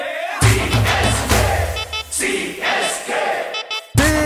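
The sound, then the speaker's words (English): A large crowd cheers and chants for the Chennai Super Kings (CSK) in loud, rhythmic bursts, voices swelling together with brief dips between shouts before a final surge of noise. “CSK, let me hear you.”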